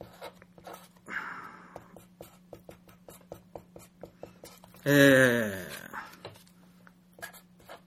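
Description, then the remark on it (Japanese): A pen writes on memo paper in quick, repeated short scratching strokes with steady rhythm, briefly interrupted midway by a loud, wavering voiced sound before the scribbling resumes. “メモ用紙に書きます。はい。はい、ペンで書きましょう。”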